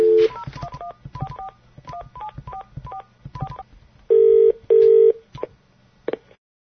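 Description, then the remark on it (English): A rapid string of touch-tone dialing beeps, paired tones in quick bursts, as a call is placed to a guest live in the UK, followed by two longer, loud steady tones as the call connects, then a couple of faint clicks. No one speaks. “As a matter of fact, we have Sir Garbage Truck who's waiting for our call, so I thought we'd go ahead and add him in now, live from the UK.”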